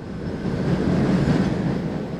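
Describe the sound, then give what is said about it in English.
A Boston subway train rumbles into a T station, a loud, steady low roar of rolling wheels and rail noise that swells slightly midway, with no voices. “Coming up, the origin of noise, and which is louder, the space shuttle blasting off from Cape Canaveral or a Boston subway train pulling into a T station?”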